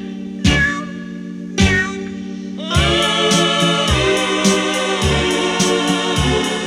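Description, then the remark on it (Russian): A cat meows with two separate drawn-out cries, followed by a longer run of steady, repeated mewling in a rhythmic pattern. The sound is fairly loud and high-pitched, with no one talking. “О чем кисонька ты плачешь?”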